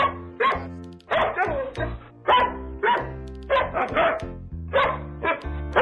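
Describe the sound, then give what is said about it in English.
A dog barks over and over in quick, rhythmic bursts, loud, the barks rising and falling in pitch almost like a tune, with no pauses of silence between them, in a jingle about Mike Vick's dog on The Don and Mike Show on WJFK. “There was an athlete, had a dog, and Mike Vick was his name.”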